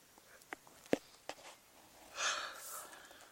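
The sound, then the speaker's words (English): A single drawn-out, breathy yawn rising and fading over about a second, preceded by a few soft clicks, otherwise quiet. “See, and when you yawn, that means you're lacking oxygen.”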